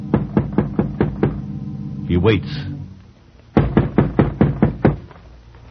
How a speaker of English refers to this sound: The house seems deserted, foreboding. Roy goes to the front door, warily, and knocks.